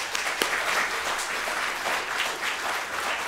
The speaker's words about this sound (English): Absolutely. Praise God. And y'all give the Lord a round of applause.